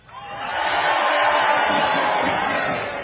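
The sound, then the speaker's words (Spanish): A crowd of people outside a tent shouts and roars together on request, a dense, sustained wall of many voices that swells quickly and holds steady for about three seconds. “Que grite solamente la gente de afuera.”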